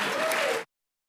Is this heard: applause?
yes